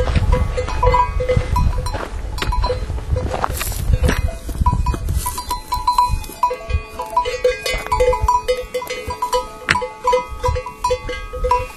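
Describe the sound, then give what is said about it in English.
Mules moving near a walking path, the bells under their chins clanking irregularly over shuffling hooves and rustling, steady throughout, with no one talking. “So, that's the mule report.”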